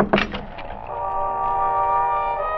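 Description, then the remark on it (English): A few quick knocks on the unlocked door of Wilson's trailer, then a long, steady creaking squeal from the hinges as the door slowly swings open, with no voices. “The door to the trailer was unlocked, and it swung open at my knock.”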